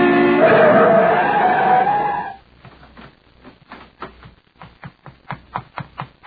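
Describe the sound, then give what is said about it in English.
A car approaching on a highway screeches its tires loudly in a long skid for about two seconds, narrowly missing a person who has fallen in the road, then cuts off abruptly, leaving a run of quieter, evenly spaced clicking taps. “In the middle of the highway, I waited for a car to go by, but as it approached, Tanner came up behind me and pushed, and I went sprawling in the road.”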